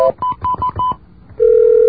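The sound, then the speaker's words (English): Modem dialing tones: a quick run of about five evenly spaced touch-tone beeps, a brief pause, then a loud steady mid-pitched tone that holds to the end. No one speaks. “Stony Brook modems, on the other hand, have a different sound.”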